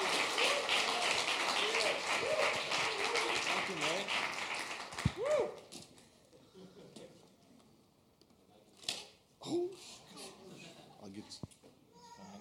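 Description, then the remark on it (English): A church audience gives a round of applause to welcome a man as he comes up, dense clapping mixed with cheering voices filling the first five seconds, then dying away into a quieter stretch with a few scattered claps and murmurs. “So give him a round of applause as he comes.”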